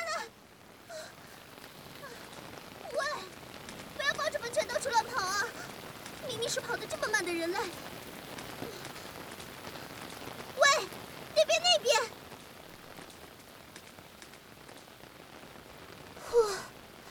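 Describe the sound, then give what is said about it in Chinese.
Steady rain, a sudden shower right after sunshine, patters on a surface in a continuous, moderately loud hiss that lasts the whole time, heard while sheltering under a narrow eave, with a few brief voice-like sounds rising over it now and then. “天气啊，刚才还阳光普照呢，这会儿又下雨了，都怪你非要跑出来玩，这下好了，只能躲在这么狭小的屋檐下。”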